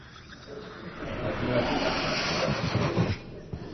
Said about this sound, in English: So we're going to take some air and fill this balloon with air.